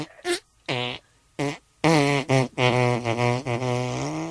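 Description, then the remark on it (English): A melody performed entirely with mouth-made fart noises: a few short buzzy bursts, then longer sustained raspberry tones shifting in pitch like a tune, fairly loud with no speech. “Guess my fart mouth song, is then it, you win.”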